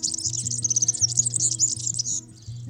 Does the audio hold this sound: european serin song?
yes